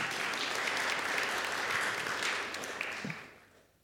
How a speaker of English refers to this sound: Can we also clap for her?